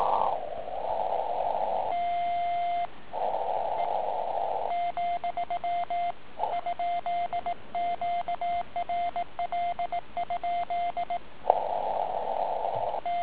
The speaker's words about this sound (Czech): Nepříjemné je tady to, že Cyton, zkrátka příposlechový tón, je pevně nastavený na 700 Hz, což mi nevyhovuje, a je zde nevhodně volená časová konstanta.